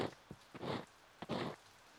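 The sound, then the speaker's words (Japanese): Soft, quiet rain patters with no talking, swelling into a few brief louder rushes of hiss before easing back to a faint steady drizzle. “雨の音を聞きながら耳かきされてる。”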